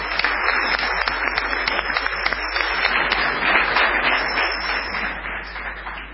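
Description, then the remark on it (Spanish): An audience applauds steadily for about six seconds to greet the arriving friend Tute, a dense, even wash of many hands clapping at once, fairly loud with no one speaking over it. “Ahí está el amigo Tute, vamos a aplaudir.”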